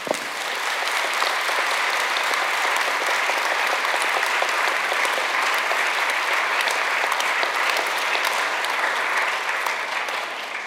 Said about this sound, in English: And before we do anything else, ladies and gentlemen, I think we should give a particularly warm round of applause to all those writers and intellectuals in Burma who fought for free speech for so many years. Please join me.